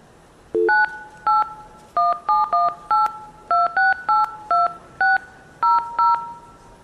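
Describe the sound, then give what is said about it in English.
Blue box telephone tones played live as a demonstration: a brief low tone, then about a dozen short, loud two-note beeps in a quick, slightly uneven rhythm, with no voices. “I'm going to blue box.”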